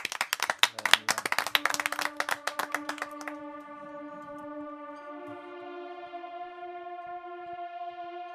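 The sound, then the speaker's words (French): People around a table clap, asking a guest to play a piece, in a quick, dense burst of applause for about three seconds; it fades out as a steady, sustained musical note rises underneath and carries on alone. “Ok, si tous ceux qui sont autour de la table t'applaudissent là tout de suite, tu nous fais un morceau?”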